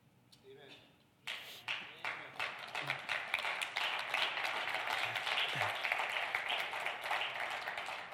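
After a brief quiet moment, an audience bursts into applause: many hands clapping in a dense, crackling wash that stays loud and steady until the end.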